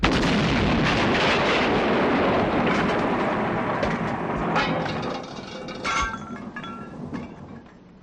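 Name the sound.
explosion blowing doors off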